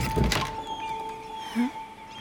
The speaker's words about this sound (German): Dann hörten wir hinter der massiven Tür Schritte näher kommen und die rechte Türhälfte öffnete sich.